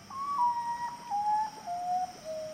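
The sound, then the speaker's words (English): A common potoo, a nocturnal bird of tropical Central and South America, gives a mournful call: a series of clear, whistled notes that step downward in pitch one after another, prominent over a steady, faint background hum of night insects. “The common potu, a nocturnal bird of tropical Central and South America.”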